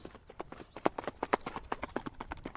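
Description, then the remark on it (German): Rapid, evenly spaced hoofbeats of an Icelandic horse moving at the tölt, a smooth four-beat gait, each strike crisp, in a steady running rhythm with no voices. “Was ist das für eine Gangart, Esther? Das ist der Tölt.”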